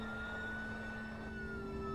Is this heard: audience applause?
no